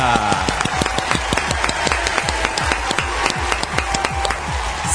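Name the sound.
studio audience applause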